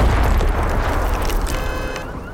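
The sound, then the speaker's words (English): A single loud pipe bomb explosion at night, a motion-activated device hidden in a 24-ounce Styrofoam coffee cup on a car roof atop a two-story parking garage behind the Luxor: a heavy boom followed by a deep, rumbling roar that slowly fades, with a faint high ringing tone near the end. “An explosion ripped through the night air.”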